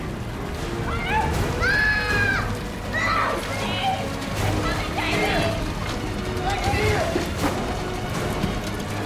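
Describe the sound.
Water sloshes and splashes steadily as people wade shoulder deep through it, a continuous churning with voices talking and calling out over the top.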